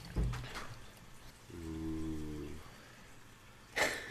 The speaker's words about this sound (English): Ooh. Portery. Portery. It's got a really thick head, and I didn't even pour it that aggressively.